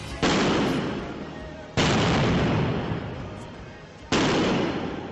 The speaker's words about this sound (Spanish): Barrenazos, petardos de los mineros que han vuelto a salir a la calle. Sí, has escuchado bien. Se han vuelto a concentrar hoy, como antaño, en Oviedo, frente a la sede de UNOSA, en la Avenida de Galicia.